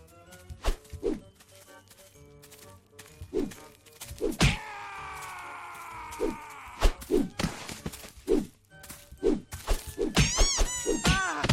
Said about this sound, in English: I just punched a squeaky toy.